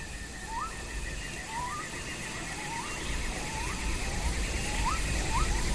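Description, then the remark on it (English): An outdoor animal chorus: repeated short rising calls over a steady, pulsing cicada drone, with a low rumble of thunder underneath that swells slightly in the second half. No one speaks. “You can hear different animals, cicadas. Mm. There's even sort of a low rumble of thunder in there somewhere.”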